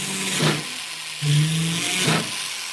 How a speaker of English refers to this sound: Lobsha drills a hole in a piece of silver, in which he'll later set a jewel.